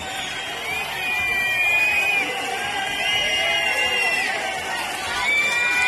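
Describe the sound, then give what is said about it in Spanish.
A large crowd whistles and shouts in jeering disapproval at head of government Pedro Sánchez arriving at the authorities' stand of a military parade, with shouts of 'okupa' and calls for elections; shrill, sustained whistles cut through a steady roar of many voices that swells and stays loud throughout. “Así ha sido recibido Pedro Sánchez, con silbidos, gritos de ocupa y petición de elecciones ya.”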